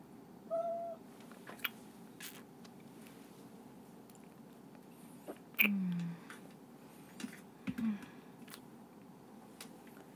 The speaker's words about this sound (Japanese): 猫が今鳴いたからね。